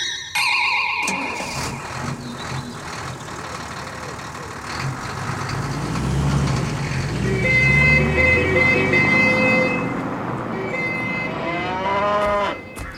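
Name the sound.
cow mooing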